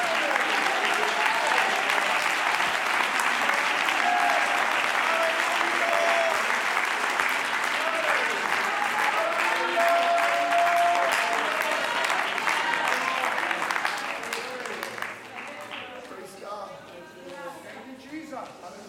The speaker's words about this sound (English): Oh, would you clap your hands?